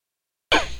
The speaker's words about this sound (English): So you're going to hear pauses here and there because this is the time of year where my allergies kick in and I'm coughing, so I'm going to mute the button.